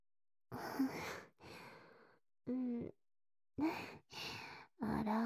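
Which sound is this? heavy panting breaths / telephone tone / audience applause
heavy panting breaths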